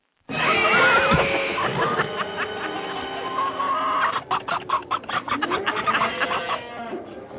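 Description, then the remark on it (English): A loud, continuous string of animal noises: a horse whinnying, a cow, and cats meowing, ending in choppy, rapid bursts like an angry cat. No one talks over it. “Wait, can you play the one with horse, cow, cat, and angry cat?”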